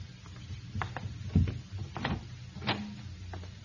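A door being opened: a handful of irregular mechanical clicks and clunks from a latch and lock, with a heavier low thump partway through, moderately quiet and with no voices.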